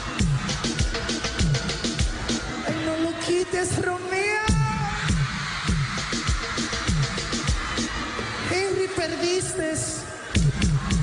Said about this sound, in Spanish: La realidad es que ellos están gritando porque él tiene que mover su trasero para que le aplaudan.